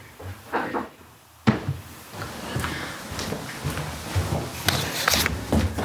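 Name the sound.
knock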